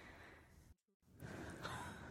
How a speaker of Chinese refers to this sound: 这就是 这有人打呼吗？不是， 这就是刚才那个导演说的那种女性的那种语气的那种 啊，就是耳，就是 呼吸声， 耳边的呼吸声， 耳边的呼吸声， 喘息 啊， 喘 息。OK，喘息。就这种就是对他来讲就很性感嘛。